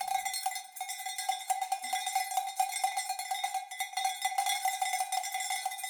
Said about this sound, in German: Die Schelle scheppert eher. Die klingt ein bisschen wie Blech.